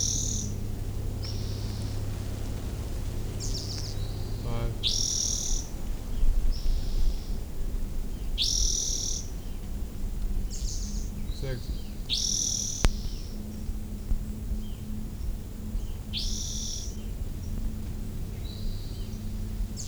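A bird gives short, bright chip calls repeated at a steady pace, high-pitched and clear over a low, constant background hum, with fainter calls mixed in between.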